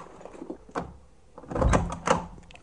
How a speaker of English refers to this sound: And now here's a door.